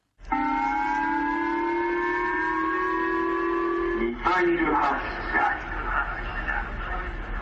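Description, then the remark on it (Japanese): An emergency warning alert in northern Japan for a North Korean missile launched over Japan: a loud, steady electronic tone with bright harmonics holds for about four seconds, then breaks into a rougher, jumbled burst of sound that continues to the end. “北日本の人々は北朝鮮がこの3週間弱の間に2度目の日本の上空を通過するミサイルを発射することを知らせる警報で目を覚ましました。”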